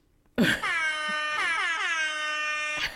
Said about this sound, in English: You gotta hold for the other Jamaican air horn.